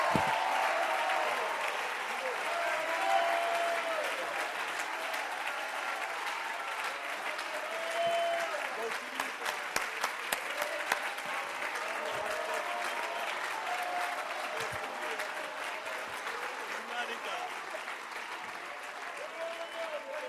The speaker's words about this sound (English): Give the Lord a shout with a hand clap now. Praise.